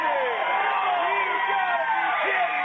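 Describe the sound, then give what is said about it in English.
A basketball crowd reacts to a charging foul called on Arapahoe in a game against Pleasanton with a loud, sustained roar of mingled voices, individual shouts and yells rising above the din for nearly three seconds. “Wait till you hear the crowd on this.”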